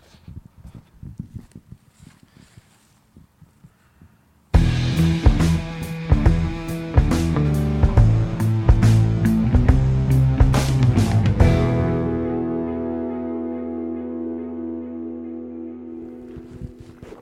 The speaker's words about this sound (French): T'as un tracteur qui va passer. Ouais.